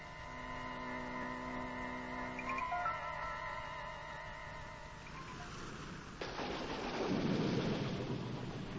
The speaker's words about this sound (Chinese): 又下雨了，还打起了雷，伴随着沉闷的雷声